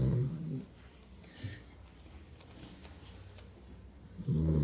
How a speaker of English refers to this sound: Sleeping dog.